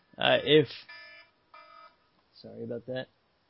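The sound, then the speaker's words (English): A cell phone rings with a couple of steady electronic tone bursts, set between short stretches of someone speaking. “Cell phone going off.”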